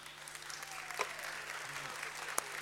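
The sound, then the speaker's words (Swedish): Steady applause from a sizable audience at an award ceremony as a prize is received, a dense patter of many hands clapping at once with a few sharper claps standing out, continuing throughout. “Stor applåd!”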